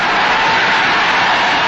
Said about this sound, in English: which will be dropped into the whipped cream to the cheering of 25,000 extras. All right, cue the mountain. Cue the Air Force. Cue the maraschino cherry. Okay, 25,000 cheering extras.